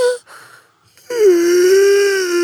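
Someone yawns: a brief voiced note and a breathy intake, then a long, drawn-out vocal groan that dips in pitch and holds steady to the end.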